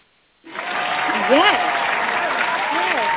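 After a brief silence, a crowd bursts into steady, dense applause for an impromptu East Coast versus West Coast rap battle, holding at full strength throughout, with a few rising whoops and cheers from the audience mixed in.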